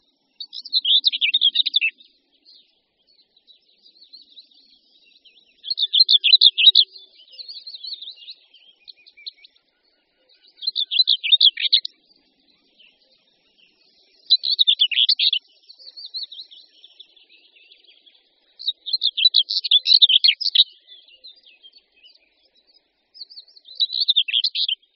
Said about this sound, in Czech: Pěnice hnědokřídlá je nenápadně šedě zbarvená, jen z vrchu křídel má výrazně rezavě hnědé políčko. Dříve se pro své šedé zbarvení jmenovala ostatně pěnice popelavá, jak ji vlastně ještě dodnes říkají někteří starší ornitologové.